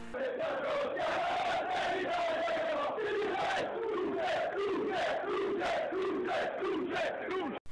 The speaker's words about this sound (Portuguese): Os gritos de Duce, sinônimo de líder em italiano, em referência a Mussolini, já foram ouvidos em diversos jogos na curva norte do estádio.